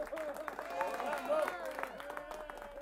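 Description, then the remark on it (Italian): An audience applauds with a steady patter of claps, mixed with a murmuring crowd and sustained tonal voices, holding at a moderate level for about three seconds. “Con un applauso è accolto quel suo dire.”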